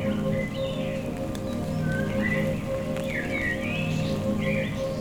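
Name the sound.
light rain falling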